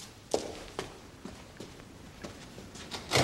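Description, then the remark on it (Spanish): Several soft, evenly spaced footsteps cross the room, then a door closes with a louder, fuller thud at the very end. “Piñón cierra la puerta.”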